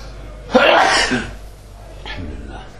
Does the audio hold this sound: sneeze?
yes